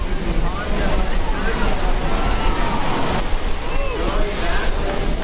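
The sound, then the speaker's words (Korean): Pacific Ocean waves break and wash onto Huntington Beach, California, during a dog surfing contest, in a steady, loud roar of surf, with wind noise and faint voices in the background. “서핑 보드, 그러니까 이 파도타기용 판에 올라선 개들이 넘실대는 파도를 즐기며 실력을 뽐냅니다.”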